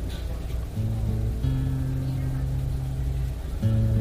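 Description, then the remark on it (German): A bus engine rumbles with steady low tones that shift in pitch as it slows, pulling in toward the bus stop in front of a large apartment building. “Und während er sich der Haltestelle vor dem großen Wohnhaus nähert”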